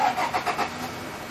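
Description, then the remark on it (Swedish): The starter motor of an electric mail-delivery car in a hospital area in Malmö whirs briefly in a quick series of rhythmic pulses, then settles into a low, steady hum. Fairly quiet, with no voices. “Ljudet från elbilens startmotor kan jämföras med en vanlig bil som startar 15 meter bort.”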